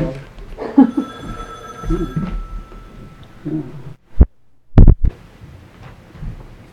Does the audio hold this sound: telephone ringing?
yes